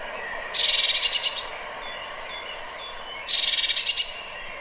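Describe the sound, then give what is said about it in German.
A bird calls twice in two short bursts, each a fast run of high, bright notes rising in loudness, separated by a pause with faint background noise. “So, jetzt kommt mal der Ruf.”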